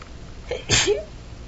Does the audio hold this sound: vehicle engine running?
no